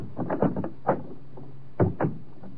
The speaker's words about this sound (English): Van Dahl's lock was stubborn. After what seemed an eternity, I felt the lock slip down and the door opened.